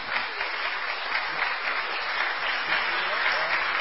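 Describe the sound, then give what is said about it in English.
An audience claps steadily in thanks to a team, a dense, continuous patter of many hands at an even loudness for the whole few seconds, with no voices standing out. “So give these lot a round of applause.”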